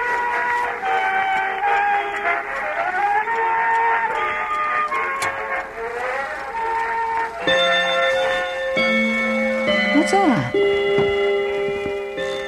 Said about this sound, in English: It's 3 o'clock? Well, wasn't it 3 o'clock just 5 minutes ago? Oh, I love that old clock of mine. Old bone white clock with the gold angels round the face.